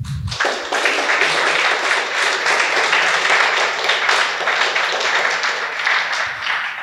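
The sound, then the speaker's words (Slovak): A crowd claps steadily in sustained applause for the invited guests at the close of a discussion event, a dense, even patter of many hands at a fairly loud level that carries on without pause throughout. “Toto si zaslúži, si myslím, ešte jeden potlesk pre našich hostí.”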